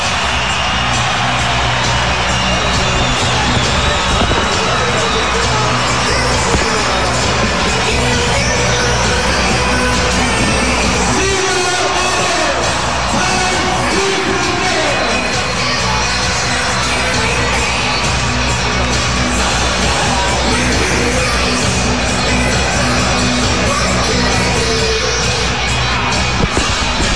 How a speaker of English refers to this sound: And the crowd goes wild.